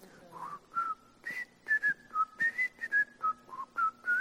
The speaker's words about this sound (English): Now, on my phone, my wake-up alarm is actually the theme to the Andy Griffith Show.